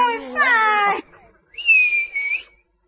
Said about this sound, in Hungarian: Hát kértelek én téged, hogy fütyülj. Én annak a blökinek fütyültem, nem pöttyös helyett.